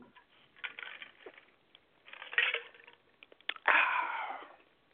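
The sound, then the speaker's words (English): Someone takes a few short, wet slurping sips from a drink, then one longer, louder drawn-out slurp at the end, with soft breathy noises in between and no talking. “Matter of fact, I'll take a little sip right now.”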